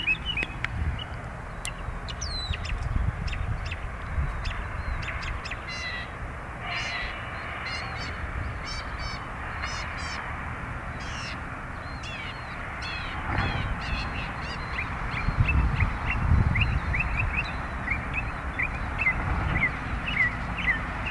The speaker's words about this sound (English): Yeah, all during our trip to the south, that's the thing that we hear, that beautiful bird song. Yes, every place we went to, Augusta First, Macon, every time we arrive to these places and get out of the car, we hear songbirds.